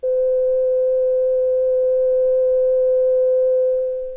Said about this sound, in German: Lege ich an den einen Eingang des Gerätes die Frequenz von 300 Hertz, an den anderen Eingang die Frequenz von 200 Hertz, so erhalte ich am Ausgang die Summe von 200 plus 300, also 500 Hertz.